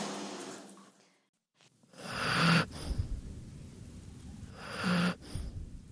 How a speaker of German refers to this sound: schnarcht schon, also der ist todmüde, das ist natürlich am Abend immer so.